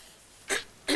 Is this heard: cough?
yes